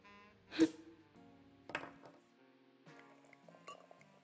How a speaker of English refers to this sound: Here it is. A genuine Chouet champagne bottle. Let me pour us some.